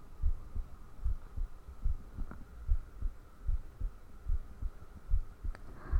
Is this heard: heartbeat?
yes